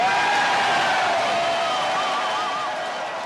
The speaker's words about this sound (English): Pretty enthusiastic crowd there at Ron Paul headquarters of the union leader.